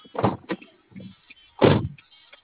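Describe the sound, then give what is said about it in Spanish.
A door is opened and then shut again, with a clunk of the latch, a short rattle, and a heavier thud as it closes. Faint rustling follows, and no one speaks. “A ver, ayúdame a abrir la puerta y la vuelves a cerrar.”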